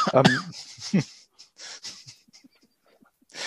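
A man coughs in several rough, uneven bursts, the first ones loud and throaty, followed by quieter wheezing breaths and a final harsh burst at the end.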